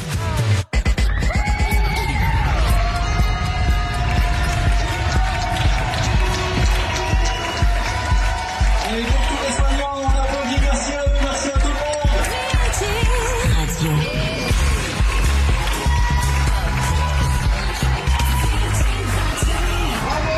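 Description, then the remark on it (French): A dense, steady wash of many people clapping and cheering from their windows and balconies at 8 p.m., applauding medical staff in support of hospital workers, with whistles and shouts rising through the noise. The sound stays loud and continuous throughout. “On se met à la fenêtre ou sur balcon et on applaudit le corps médical.”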